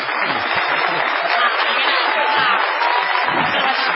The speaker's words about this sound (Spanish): Corresponde ahora la ovación delirante dedicada al artista antes llamado Gillespie.